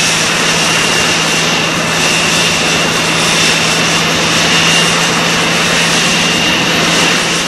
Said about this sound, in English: We're on a Navy aircraft carrier off the coast of Vietnam. Its flight deck shrieks with jets impatient for launch.